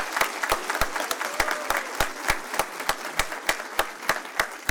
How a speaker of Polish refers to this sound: Proszę bardzo, wielkie brawa!